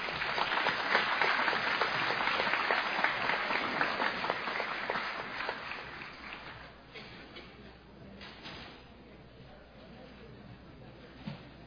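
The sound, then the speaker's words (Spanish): Sustained audience applause for the children's ensemble Camerata Infantil M. Ponce before they play some musical pieces, loud and dense at first, then gradually thinning and fading over the following seconds, with a few scattered claps near the end. “Continuando con el orden del día, escucharemos ahora unas piezas musicales que serán interpretadas por la Camerata Infantil M. Ponce, para quienes les pido un fuerte aplauso.”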